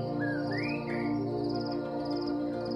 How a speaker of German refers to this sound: Die kurze Dämmerung verschwindet so schnell wie das Geräusch der Zikaden. Der Tag entfaltet sich in voller Kraft. Nach den munteren Grillen sind die unzähligen Vogelarten an der Reihe, die ihren Platz im morgendlichen Urwaldkonzert einnehmen.